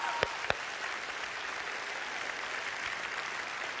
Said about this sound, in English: Come on, give God a big hand clap, huh?